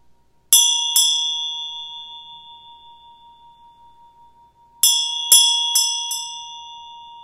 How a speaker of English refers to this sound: When I ring the bell, I want you just to hear the bell. And then the next time, ring the bell and say, I am hearing the bell. And feel what the difference is.